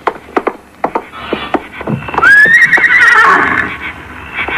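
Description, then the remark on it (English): A Mexican saddle pony gives a loud, high whinny that rises and then wavers downward for about two seconds, preceded by a series of sharp hoof clops and knocks. “He's a real Mexican saddle pony.”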